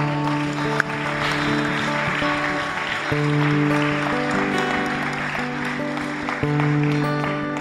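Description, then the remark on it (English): An audience claps as a clap offering to the Lord for his word, in a dense, steady wash of applause, with sustained organ or keyboard chords holding underneath and shifting a few times throughout. “I'd like to give the Lord a clap offering for his word.”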